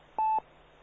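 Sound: telephone keypad dialing tones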